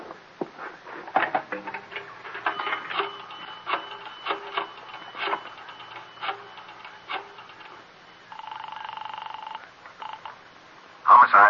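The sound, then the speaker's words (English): Mechanical clicking and whirring of a telephone being dialed in the back of a delicatessen on 24th Street, bursts of rapid ratchet-like ticks repeating, followed by a short steady tone and a sharper clatter at the end. “Now, look, I'm going in the back and use your phone.”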